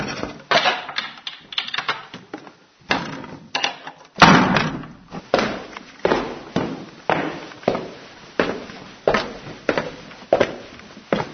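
A heavy iron door of a holy cave swings shut with one loud thud partway through, surrounded by a steady series of clanking knocks and footstep-like thumps. No one speaks.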